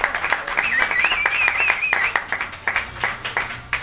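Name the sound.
applause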